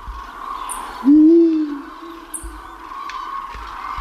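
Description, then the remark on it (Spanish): A single deep, loud eagle owl hoot rings out, holding steady for nearly a second before fading into a softer tail, over a continuous hum of bird calls in the background. “Y pueden estar también dentro de unas semanas rellenando el fondo contra el silencio, contra el que cantan los búhos reales.”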